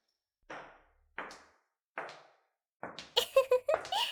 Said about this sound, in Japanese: ドアを閉めてっと。ちゃんと鍵も閉めないとね。